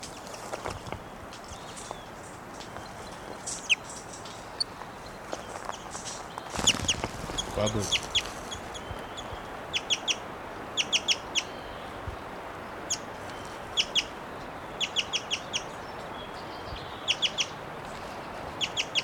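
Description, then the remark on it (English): A wild bird calls repeatedly in short, high-pitched bursts, often in quick clusters of two or three notes, over a steady hiss of background noise with a brief louder rustle partway through. “Seven still calling, the wild bird still in her cage.”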